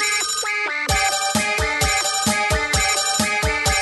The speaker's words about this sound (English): I didn't realize he came with music. It's the phone. It's the devil's phone.